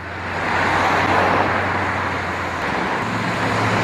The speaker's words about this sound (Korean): 그 가운데 도저히 놓칠 수 없는 건 바로 거리를 다니는 자동차들. 바로 델라웨어 주 자동차 표지판을 통해서도 엿볼 수 있다.